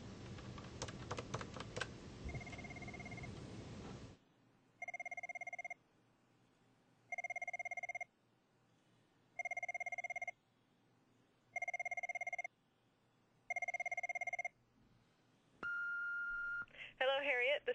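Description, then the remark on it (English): A telephone rings over and over with a call from a doctor's office, six steady electronic rings spaced evenly apart, clear, after a brief burst of typing on a keyboard; nobody picks up. “so knocks on the door and phone calls often go unanswered.”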